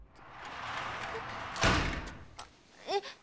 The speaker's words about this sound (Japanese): なんで扉を閉めて。